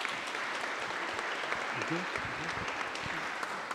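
Steady applause from a group fills the whole stretch, a dense even crackle of many hands clapping at once with no pauses, while a few low murmured voices surface faintly beneath it.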